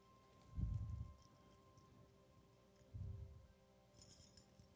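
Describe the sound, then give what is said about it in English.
Soft, muffled thumps of rummaging, then a brief, faint jingle of keys on a key ring holding a Canadian two-dollar coin near the end, with no voices. “The keys are in here somewhere.”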